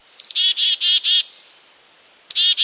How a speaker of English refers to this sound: Let's listen to a few that call their names. Do you recognize the chickadee-dee-dee? Listen again.